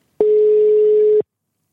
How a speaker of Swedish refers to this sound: Jag tar och ringer Mamsi här nu då.